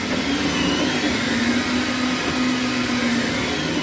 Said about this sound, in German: Ich bin gespannt, hier läuft der 3D-Drucker. Man hört das, ne? Ja.